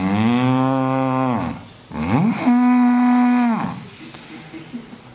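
Two long, loud moos from a cow waiting to be milked, each a drawn-out, steady bellow with a brief pause between them, followed by quiet background noise.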